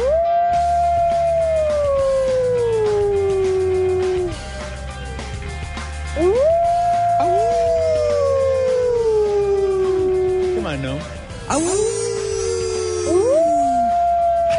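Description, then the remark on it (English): Coyotes howl in long, sliding wails, about four of them in a row, each rising and then slowly falling, with a few sharp yips near the end. The calls are loud, over a low background hum. “Manhattan is being overrun by coyotes.”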